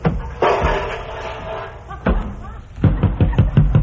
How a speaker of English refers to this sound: The door of this refrigerator slammed shut and locked me in. Hey, get me out of here!